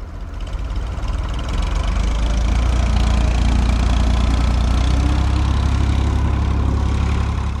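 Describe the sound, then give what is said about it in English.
A landscaping truck engine idles with a steady, deep rumble and a faint knocking texture while a load of fescue grass is eased onto its back in the small town of Anger, running continuously without change for the whole stretch, with no voices. “eases a load of fescue grass onto the back of a landscaping truck.”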